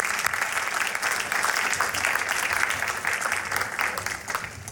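Sustained audience applause for all the contestants, a dense steady clatter of many hands clapping at once, fairly loud and even throughout with no talking over it.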